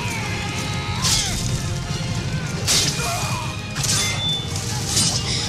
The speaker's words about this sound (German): Ja, hier knacken wirklich die Knochen, hier flirren die Pfeile und klirren die Schwerter.